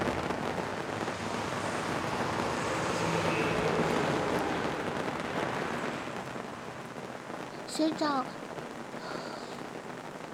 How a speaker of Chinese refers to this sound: 咦，外面下雨了呢。